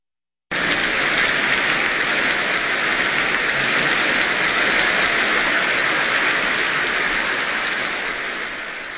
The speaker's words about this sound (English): And that applause for pianist Van Cliburn, taking us through the Second Piano Sonata by Sergei Rachmaninoff, first written in 1913, completed in 1931.